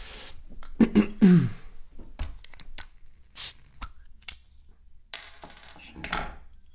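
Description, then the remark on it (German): Handling clicks and rustles lead to a short burst of hiss, then a sharp pop as a drink is opened, followed by a brief fizzing hiss. No one speaks. “Wir machen uns Sachen auf.”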